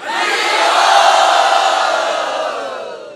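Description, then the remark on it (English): A large crowd of devotees roars together in one sustained, loud burst of voices that swells early and then slowly fades over a few seconds. “And all the devotees would roar.”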